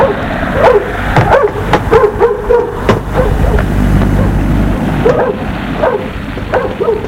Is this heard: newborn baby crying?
no